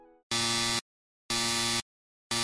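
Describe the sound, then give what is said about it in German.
A loud, harsh alarm clock buzzer sounds in steady bursts early in the morning in Germany, each about half a second long with equal pauses between, repeating with no one speaking. “Den Wecker an die Wand schmeißen.”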